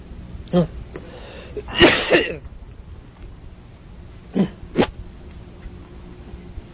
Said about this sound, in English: Anybody have any whiskey here? I need to clear my throat.